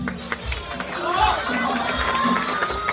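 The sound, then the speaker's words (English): A crowd cheers and calls out encouragement to a contestant who has frozen during a timed writing competition, a dense, steady roar of many voices with scattered shouts rising and falling throughout, loud. “The seconds are ticking by, so the crowd starts cheering him on.”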